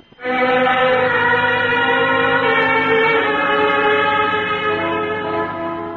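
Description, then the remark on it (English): A departing train sounds one long, loud whistle blast, a steady rich tone held for several seconds and fading slightly at the end. No one speaks. “When I felt that train start and knew I was on my way home, it felt so wonderful.”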